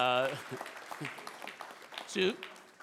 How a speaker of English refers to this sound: So let's clap for Jesus, you know.